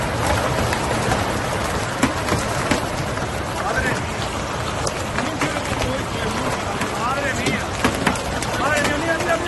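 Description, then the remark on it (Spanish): Large hailstones pound relentlessly on cars at night in El Ejido, Almería, Spain, a dense, loud clatter of countless sharp impacts over a rushing water-like hiss as water reaches the car seats, with indistinct voices faintly audible beneath the din. “Pero claro, es que lo más peligroso sucedía anoche en el Ejido, en Almería, el granizo, bolas enormes golpeando coches con el agua llegando ya al asiento.”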